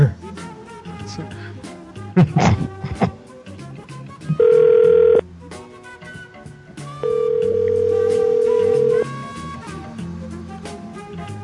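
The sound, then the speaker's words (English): Two steady electronic ringback tones of a telephone call being forwarded, each about a second long, sound over a busy background of music, with a sharp burst of noise just before them. “Your call has been forwarded. Automatic.”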